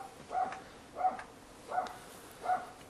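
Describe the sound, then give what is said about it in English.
A small dog yips four times upstairs in a house, in a steady, evenly spaced rhythm, the barks sounding muffled, with no voices present. “There's our little yipper dog upstairs barking.”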